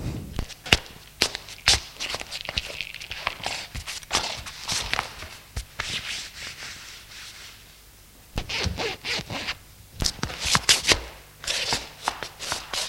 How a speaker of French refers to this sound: Albert va ramasser son jean qui se trouve à terre près du lit et le met.